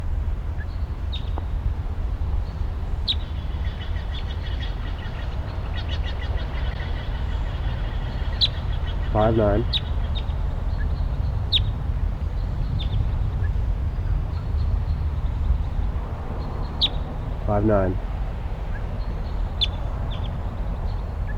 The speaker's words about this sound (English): The wild crossbill is here. It's a red male.